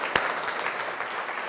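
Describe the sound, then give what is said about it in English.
An audience applauds itself after a group clapping rhythm exercise, many hands clapping in a dense, even wash of sound with one sharp louder clap near the start, no voices. “Well done, give yourselves a big round of applause.”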